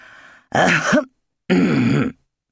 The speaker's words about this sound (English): A polite little cough came from the doorway.